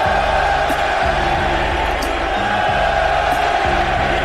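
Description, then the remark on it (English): A loud, steady roar from a large baseball crowd at Wrigley Field after Horner has singled and Tucker has walked, dense and unbroken for the whole stretch, with a rhythmic low chanting or singing rising and falling beneath the din. “Bush struck out, but Horner has singled, Tucker has walked, and the crowd is roaring.”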